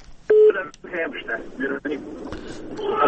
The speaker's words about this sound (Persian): تلفن قطع شد.